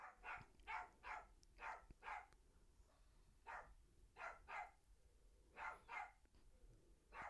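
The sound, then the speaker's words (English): A dog barks repeatedly, about a dozen sharp barks coming in quick clusters with brief pauses between, fairly quiet, with no talking. “I can make sure they hear the dog.”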